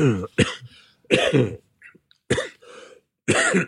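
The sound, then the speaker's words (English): A person coughs and clears their throat after eating a hobnob biscuit, a series of sharp coughs and raspy throat clearing in separate bursts with short pauses between them, loud with no talking. “Let's do some coughing.”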